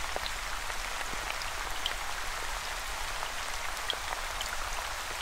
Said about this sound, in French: Vous pouvez choisir où cette pluie est en train de tomber.